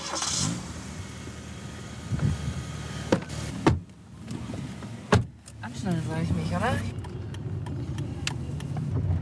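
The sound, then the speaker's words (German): Car doors thump shut a couple of times over a steady engine rumble as people get into a farmer's car, then it pulls away with a rising drone to drive over his fields while muffled voices talk inside the cabin. “Also wir steigen bei Ihnen ins Auto, oder?”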